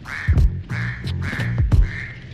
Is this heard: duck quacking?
yes